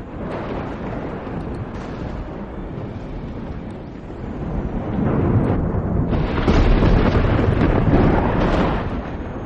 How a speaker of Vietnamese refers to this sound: Ở trên bầu trời đang trời quang mây tạnh như vậy, bỗng nhiên bùng lên một tia sấm sét đánh thẳng vào tên tóc vàng.